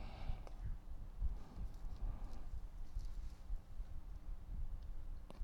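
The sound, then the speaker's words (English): Horse hooves clip-clop in a steady, continuous rhythm, muffled and low in tone, with a faint background rumble and no voices. “Hear the sound of the tin cans and the horse tails.”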